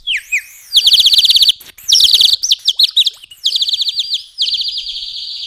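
A bird-shaped water whistle warbles in several loud bursts of rapid bubbling trills, alternating between two high pitches, with brief pauses between bursts and no talking.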